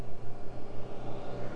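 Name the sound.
car approaching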